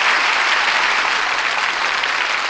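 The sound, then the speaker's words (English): A loud, steady wash of audience applause, many hands clapping densely together with no break for the whole stretch, and no voices on top of it. “That applause says it all.”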